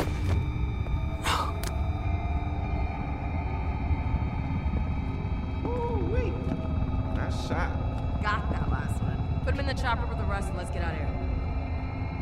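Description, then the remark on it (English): A helicopter drones steadily and loudly throughout, a constant low rumble with a whining engine tone, while brief chirps and muffled sounds pass over it. “we got the helicopter, got a bunch of extras too.”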